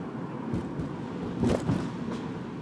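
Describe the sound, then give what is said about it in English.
Steady low road rumble from traffic, with a car's engine swelling briefly around the middle as the car cuts across in front of the speaker, before settling back into the background hum. No one speaks. “I should have T-boned that car.”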